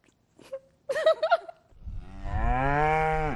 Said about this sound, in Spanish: El mugido de una vaca, el canto de un gallo o las campanas del pueblo, símbolos franceses que podrían estar amenazados.